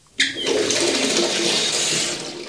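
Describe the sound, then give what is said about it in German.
Water gushes steadily from a tap into a bathtub as hot and cold water are mixed for a bath, starting abruptly and running as a loud, continuous rushing splash with no voices. “Wenn ich jetzt einen Schuss von dem Kalten dazu nehmen könnte.”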